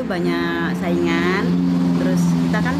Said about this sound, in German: Ein Straßenimbiss zwischen Balikpapan und Samarinda, dort, wo die Hauptstadt irgendwann sein soll. Ein mit Wachstuch bespanntes Sitzpodest, bitte ohne Schuhe zu nutzen.